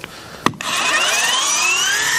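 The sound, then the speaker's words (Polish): A sharp click as an electric ice scraper switches on, followed by a steady, very loud mechanical buzz with a slowly rising whine as it scrapes thin frost off a window, much like an oscillating sander running on its own. “O, jak szlifierka oscylacyjna.”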